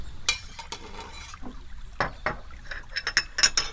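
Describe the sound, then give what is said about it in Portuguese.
Water is poured from a bottle of water into glasses, with a few sharp clinks of glass and a brighter splashing fill toward the end; no one speaks. “Enquanto vocês sentam, eu vou pegar uns copos e uma garrafa d'água.”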